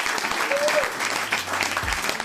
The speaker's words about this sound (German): Der Applaus gehört dir.